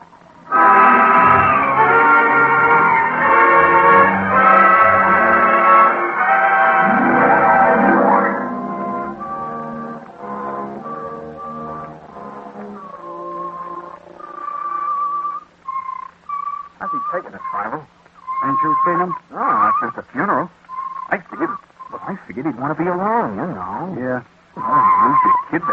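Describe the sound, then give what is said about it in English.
A fire engine with a bell roars past with loud, sustained blaring tones for several seconds, turning into a residential block, then fades as people begin talking over quieter background noise. “where's that fire engine going?”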